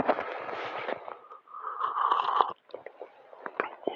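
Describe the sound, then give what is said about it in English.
A quiet slurping sip of hot coffee, the first sip of the day at 4:40 on a Saturday morning, drawn in with a breathy rush, followed by soft lip smacks and a swallow. “It's time for the first sip of coffee. So let's do that together.”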